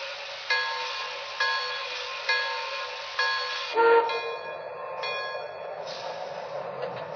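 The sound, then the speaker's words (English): A passenger train, number 54 from Chicago, rolls in on track 1 at Harrisburg station with a steady mechanical rumble and evenly spaced rhythmic thumps, then a short whistle-like tone rings out as the noise shifts and continues. No one speaks. “arriving from Chicago on track 1, train number 54, the Gotham Limited.”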